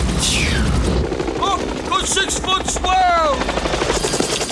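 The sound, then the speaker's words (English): Rapid bursts of gunfire and heavy booming explosions as an entire town is blown up in a film scene with Robert Duvall, shot in the Philippines, over a steady low rotor-like rumble, with brief whistling tones sliding downward through the loud, continuous din. “is Robert Duvall talking to the surfer dude, Lance, as he's like blowing up an entire town so they can go surf.”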